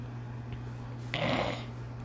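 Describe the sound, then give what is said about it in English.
A single short, wet snort through the nose, someone sniffing hard to clear mucus, against a low steady hum. “If you hear me cough a lot, that's just because I have mucus. I'm trying to get it out of my system.”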